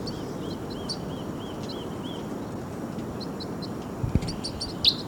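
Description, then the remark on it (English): Birds chirp in a steady series of short, high, repeated notes over a constant low rumble, with a busier flurry of sharper chirps and a clatter near the end. “Birds may be coming down. Oh, there they go.”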